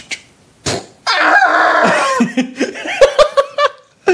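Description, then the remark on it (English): A person does a vocal impression of someone attempting a rocket jump: a long, strained, squawking cry that breaks into a string of choppy, high yelps and gasps. “And would you like to hear my impression of someone that's actually trying to rocket that's jump?”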